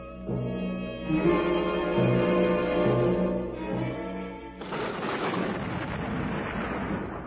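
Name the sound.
thunder rumbling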